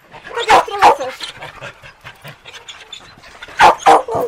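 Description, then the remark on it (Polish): Several dogs at an animal shelter holding about 500 dogs bark in loud pairs of sharp yelps, separated by a stretch of quieter rustling and soft panting-like breathing in the background. “Jest dużo psów, no ale to nie jest wina schroniska.”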